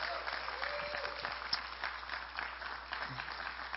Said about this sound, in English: if you could give him a LifeSpring round of applause as he makes his way up here.